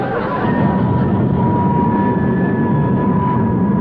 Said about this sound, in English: Looks like the bus is commencing to pull out.